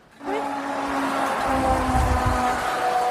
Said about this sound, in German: Oh Gott, wir sind jetzt hier auf dem Mittelstreifen. Du musst jetzt hier ganz doll mich festhalten. Es kommt ein LKW.